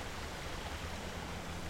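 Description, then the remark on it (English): Mine drainage water that flowed through abandoned mines gushes steadily from a well in a continuous, even rush with no pauses or voices, a broad hissing stream. It leaves a whitish-green residue on muddy, orange-tinted ground and runs 24 hours a day, 365 days a year. “leaving behind a whitish-green residue it picked up as it flowed through abandoned mines”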